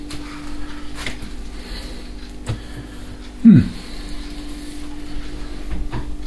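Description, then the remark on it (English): A single muffled thump as a fridge door is quickly shut over a steady low appliance hum, with faint background noise before and after. “I quickly closed the door because I could be tempted to have myself a beer, which I won't at this point, although it's very good.”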